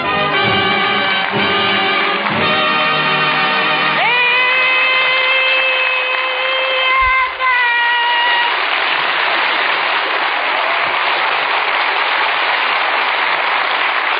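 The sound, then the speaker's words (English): The studio audience of the Abbott and Costello Show radio broadcast in Hollywood breaks into loud, steady applause and cheering that keeps going without a break, with held tones ringing out over the noise during the first half. “I stop all that yelling.”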